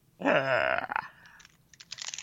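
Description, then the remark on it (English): A bite into a Lion chocolate bar gives a loud, crackling crunch, followed by a run of softer, irregular crunchy chewing noises. No one speaks. “Is it a lion bar?”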